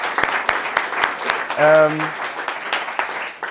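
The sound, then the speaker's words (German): A crowd applauds steadily with dense, rapid clapping throughout, and a voice briefly calls out midway over the noise. “Deswegen will ich erstmal einen riesen dicken Applaus an euch.”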